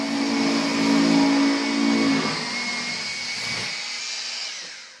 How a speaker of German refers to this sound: Letzte Arbeiten im Gemeindespital von McCook. Ein Handwerker bohrt in einer Dusche Löcher, in die Handgriffe geschraubt werden.